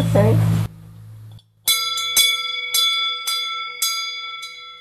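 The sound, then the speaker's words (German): A small Neo Ace break bell bearing a Bernese coat of arms rings out several times in quick, uneven shakes, each clear metallic strike leaving a bright sustained tone; it sounds fairly loud, following a brief bit of voice at the start. “So tönt also meine ganz persönliche Glocke. Die Neo Ace Pausenglocke.”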